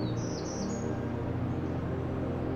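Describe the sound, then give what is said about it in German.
A few thin, high bird calls chirp in quick succession during the first second, then fade, over a constant low roar of rough sea that continues throughout. “Keine Sorge, wenn du unsere fliegenden Freunde nicht auseinanderhalten kannst.”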